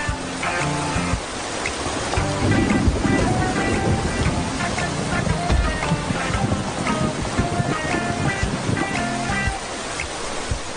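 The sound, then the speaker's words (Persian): Steady, heavy rain pours down in a dense, continuous hiss that holds even throughout, with faint tonal sounds drifting in the background. “ای بابا، همسایه‌ها دارن تو این بارون اسباب کشی میکنن.”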